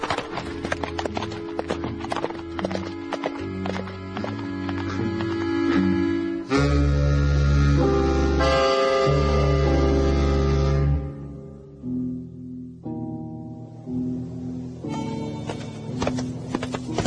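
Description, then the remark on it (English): A horse, with a man setting out alone, walks along with a steady clip-clop of hooves repeating throughout, over a sustained tonal background that swells in the middle before thinning out. No one speaks. “Just me and this brave horse.”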